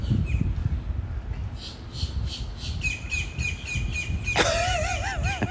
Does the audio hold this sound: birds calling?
yes